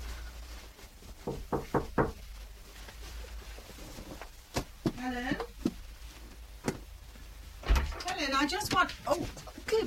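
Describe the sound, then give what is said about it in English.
A quick run of about four sharp knocks on a bedroom door, fairly loud, followed by a few more isolated taps as people begin talking. “Mum, don't you knock. I did.”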